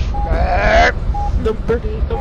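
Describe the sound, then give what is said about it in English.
A voice imitates a burping plane with a loud, buzzy, rising burp-like drone lasting about half a second, then a few short, quieter honking squeaks. “I'll make the burping plane.”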